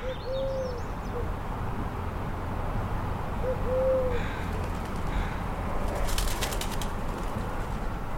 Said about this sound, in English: On day 3, I was sleeping with the window open early one morning during Alaska's June heat wave when the collared dove came to me.